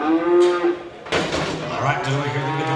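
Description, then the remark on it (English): Cattle moo in a noisy, packed livestock auction arena as the gate opens and a handful of cows rushes in, one drawn-out call followed by a burst of commotion and then a deeper, lower moo over a busy background din. “Every few minutes, the gate to the arena opens, and a handful of cows rushes in.”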